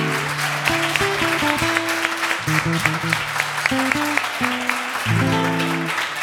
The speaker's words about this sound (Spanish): Vamos a presentar a estos músicos maravillosos. Por favor, un fuerte, fuerte, fuerte aplauso para Mario Cabucha en piano.